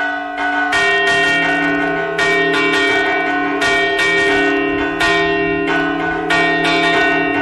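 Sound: church bell ringing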